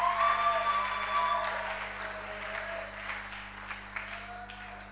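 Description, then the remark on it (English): A sermon audience applauds after being asked to put their hands together, a fairly modest wash of clapping that holds steady and slowly thins out over several seconds, with a sustained tone lingering under it at the start. “Oh, I thought you would clap better.”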